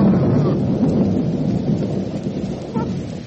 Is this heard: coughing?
no